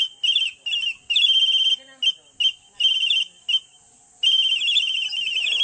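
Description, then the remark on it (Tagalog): Shrill, high-pitched Aita flute music and whistling imitating bird calls, played to call birds, in short trilling bursts separated by brief pauses, then a longer sustained warbling trill near the end. Clear, with no voices. “Ating pakinggan ang ilang musika sa plauta ng Aita at sipol ng ibon na inihahandog sa ating mga kaibigang hayop.”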